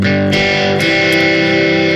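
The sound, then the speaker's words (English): A heavily distorted electric guitar, demonstrating a distortion setting that is too heavy, rings out in thick, sustained chords, with a dense buzzing wash of overtones and a couple of sharp pick attacks, loud and with no one talking. “You don't want too heavy of a distortion, you'll get more like this.”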